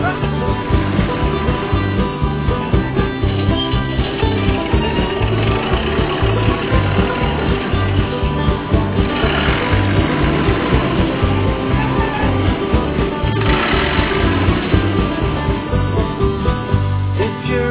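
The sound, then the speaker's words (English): A tractor engine runs steadily with a deep, rhythmic chugging throb, loud, holding an even idle-like pace with no pauses throughout. “They have great big tires, but they don't slip and slide. They have great big engines, and this is what they sound like.”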